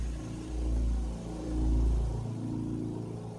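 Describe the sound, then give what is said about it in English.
A deep, throaty rumble much like a motorcycle engine idling and revving, part of a recording that opens a musical piece, swelling louder twice in steady surges before settling into a lower growl, with no voices. “It makes a beep, and then there's, it almost sounds like a motorcycle engine in there, and then you hear a psh, where one breathes and then psh, the other one breathes.”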